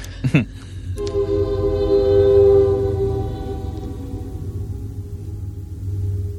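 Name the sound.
passing train with horn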